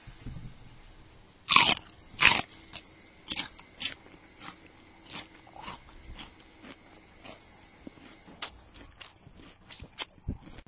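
Crisp crunching bites of an apple eaten to make a Foley effect: two loud snapping bites up front, then a steady run of softer, wet chewing crunches at an uneven rhythm, with no voices.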